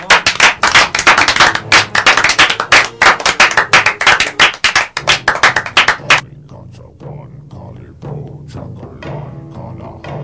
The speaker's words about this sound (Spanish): Está entrando la máquina de aplausos.